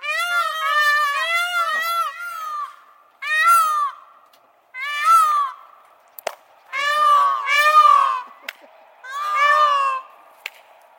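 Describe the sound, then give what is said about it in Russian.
Peacocks call loudly at the mini-zoo in the park of the Derbovezh hotel on a lakeshore, a series of about six high, wailing cries that come in separate bursts with short pauses between them. A few sharp clicks are also heard. “Вот так приветствовали нас экзотические птицы-павлины.”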